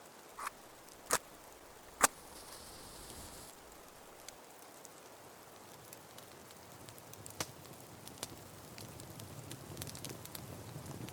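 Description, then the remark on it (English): A quiet campfire of twigs, branches and kindling in a forest in the cold crackles with scattered sharp pops and snaps over a soft, steady hiss, the pops coming irregularly and a few standing out louder early on. “Crackling and casting a gentle glow that illuminates the forest around you.”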